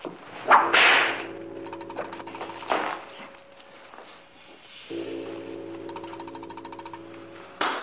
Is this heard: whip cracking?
yes